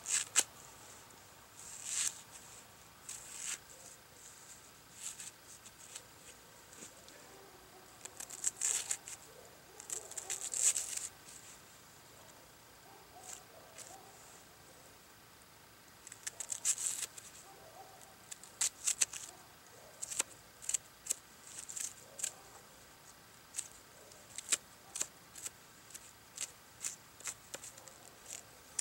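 A knife slicing a peeled onion on a cutting board for a 1940 recipe: crisp, irregular cutting taps in short bursts with brief pauses, fairly quiet, with no talking.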